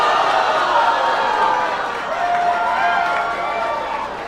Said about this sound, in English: You all booed Governor Inslee, and his campaign was forced to clarify his comments, but Jay Inslee got it right.